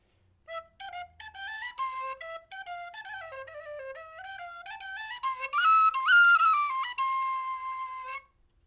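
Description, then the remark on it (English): A typewriter whistle plays a quick, stepping tune with no other sounds, its bright reedy notes punctuated twice by sharp bell-like dings, ending on a held tone. “The infamous typewriter whistle.”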